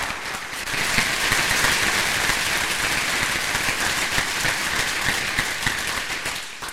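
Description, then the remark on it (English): A crowd applauds steadily for several seconds, a dense wash of many hands clapping at an even, fairly loud level before it tapers off at the very end. “Well, applause.”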